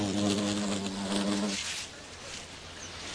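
A bee buzzes in a steady, droning hum for about a second and a half at a Diascia flower in the Karoo, dipping its toes for oil, then falls silent, leaving only a soft outdoor hiss.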